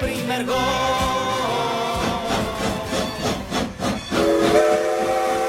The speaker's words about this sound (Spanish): Shikiti, shikiti, shikiti. Es el sonido rítmico de un tren de vapor,